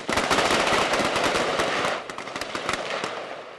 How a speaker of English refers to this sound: And that's the point of these live ammo exercises at Fort Lewis.